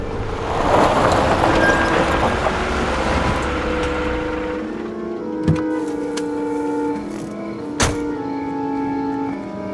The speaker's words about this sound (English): Pulling off the highway in the San Juan Springs area, he stops the car.